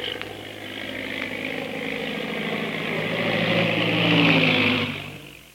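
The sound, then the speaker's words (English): A big black seaplane's propeller engine drones steadily as it circles over a plantation to land on stagnant water, a loud sustained hum with rising and falling pitch that swells toward the end before fading slightly. “Meanwhile, back at the plantation, a big black seaplane circles for a landing.”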